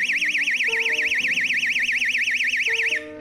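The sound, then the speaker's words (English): A loud, piercing electronic siren from a little portable personal alarm, its pitch rapidly warbling up and down in a steady fast cycle, continuous for about three seconds before cutting off abruptly. “And I have this little portable alarm.”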